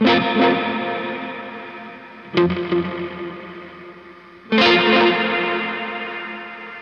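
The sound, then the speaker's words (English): Three loud, distorted guitar chords, each struck and left to ring out, smeared by a murky, wobbly tape echo with a hissy wash trailing behind. No one speaks. “It sounds like a really bad tape echo.”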